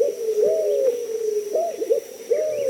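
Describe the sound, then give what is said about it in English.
Low, soft cooing notes from a white-crowned pigeon, a Caribbean bird, repeated in a slow rhythm of mellow hoots that rise and fall, with no one talking. “Listening on Key West to mangrove cuckoos and gray kingbirds, you might imagine yourself in Cuba or the Bahamas, and you might see another Caribbean bird, the white-crowned pigeon.”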